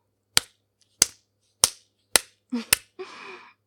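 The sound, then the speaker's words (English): Sharp, crisp slaps land one after another at a steady pace, about six in all, followed by a brief soft rustling noise. No voices are heard. “Oh, come on, a few slaps just wake you up, get the blood pumping.”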